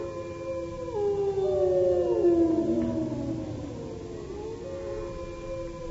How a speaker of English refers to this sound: The wolves. Listen to them, the children of the night. What music they make.